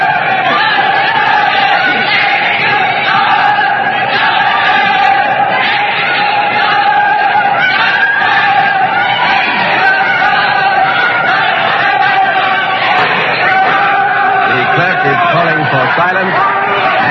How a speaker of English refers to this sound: The words are justice, execution, justice, execution. The shouts for and against the king are crashing here in this courtroom. Let's listen to them.